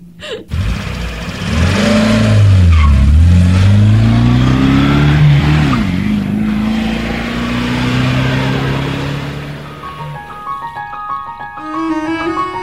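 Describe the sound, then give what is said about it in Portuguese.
A heavy bus engine roars and revs up as the bus pulls away from the rural community of Jabuti toward the city, its pitch rising and dipping through gear changes before fading, with faint musical tones at the end. “Olha, o ônibus chegou. Preciso partir.”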